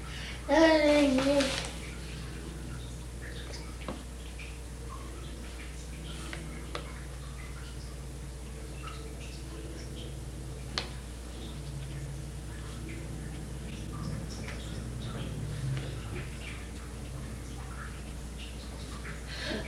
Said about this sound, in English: Boy, that water sure is dripping in the other room.